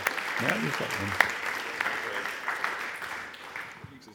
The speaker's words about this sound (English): And so it's just such a huge honor to have him with us. Why don't we give him a really, really warm clap and welcome as he comes and preaches the Bible to us.